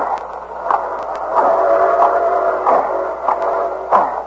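A train rumbles and clatters along the rails toward a trestle with steady rhythmic clicks, while a sustained whistle tone sounds through the middle, the noise swelling slightly louder as it goes.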